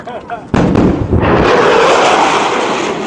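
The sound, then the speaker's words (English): A sudden, powerful sonic boom from a fighter aircraft cracks in after a brief moment of speech, then rolls into a long, loud rumbling roar that slowly fades. “these new designs could make a barely noticeable thump when passing overhead, not a window-rattling, alarming sonic boom like from a fighter aircraft.”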